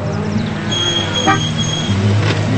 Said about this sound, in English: Now, a Ford pickup pulls in front of the bunkhouse.